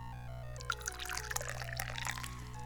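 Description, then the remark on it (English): Dahong Pao tea is poured into a cup, a steady bright splashing trickle with small droplet plinks, fairly quiet over a low steady background hum. “So the first thing we need to do is pour some tea, obviously.”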